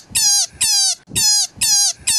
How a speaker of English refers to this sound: And the sound a rabbit makes in distress is, well, kind of horrifying.